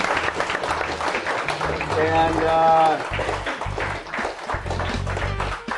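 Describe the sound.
An audience applauds steadily throughout, a dense wash of many hands clapping at once, with voices and a brief cheering shout rising over it midway.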